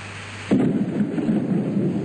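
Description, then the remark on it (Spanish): Steady rain hisses throughout, with a sudden deep rumble of thunder rolling in about halfway through and lingering under the downpour. No voices. “¿Sabes cómo le viene esta lluvia al campo?”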